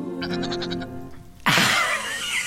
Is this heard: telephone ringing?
no